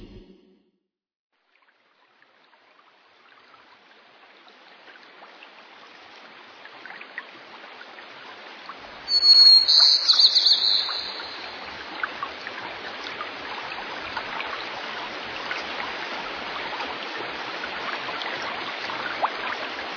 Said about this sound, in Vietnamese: Trong khu rừng nọ, cây cối xanh tươi, suối reo róc rách, có rất nhiều loài thú cùng sinh sống.